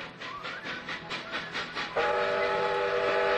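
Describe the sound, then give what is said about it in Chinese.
The Polar Express train lurches into motion with a quick run of rhythmic chugging bursts, then a loud, steady whistle blares over the rumble for the rest of the sound. No one speaks. “可是这时候火车突然晃了一下，接着就开动了，我们已经在回家的路上。”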